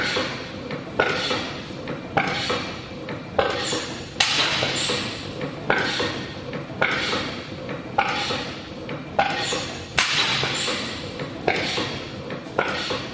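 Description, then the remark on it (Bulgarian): A genuine early Otto gas engine of the type built by Otto and Langen's company, like one shown at the 1867 Paris exhibition, runs with a steady, loud mechanical rhythm: a sharp clank or thump roughly every second, each followed by a metallic ringing wash. No voices. “Така звучи истинска машина на Ото от това време.”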